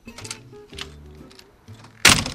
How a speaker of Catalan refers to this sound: Avui per això anem en un polígon. Sí, un polígon que m'han dit que el carrer ara no el veig per aquí el nom, però bueno, ja estic aquí, obro la porta.